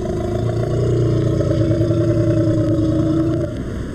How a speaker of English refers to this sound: Notice the similarity between this growl and this growl, which belongs not to a leopard or a member of the cat family at all, but to the Indian elephant. Here it is again.